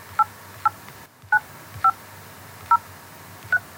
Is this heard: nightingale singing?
no